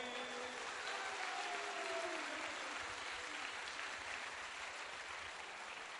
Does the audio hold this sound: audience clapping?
yes